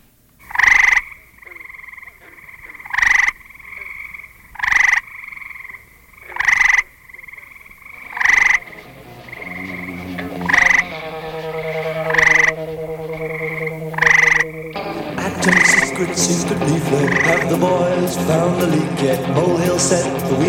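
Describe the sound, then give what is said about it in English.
An eastern gray tree frog (Hyla versicolor) gives its mating call near Englewood, New Jersey: a series of short, loud musical trills, repeated roughly every couple of seconds. Midway, other tonal sounds creep in beneath, and a dense wash of noise swamps the final stretch. “Near Englewood, New Jersey, its mating call is a musical trill.”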